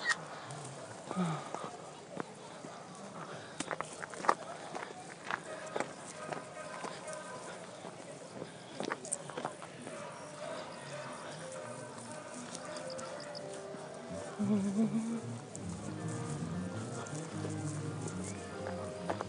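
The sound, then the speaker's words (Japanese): Sharp, hard clicks of footsteps in 10-centimetre high heels on a hard floor, irregular, over a steady background murmur with muffled voices. “すごいね、10センチヒール履いてきてる人がいますね。”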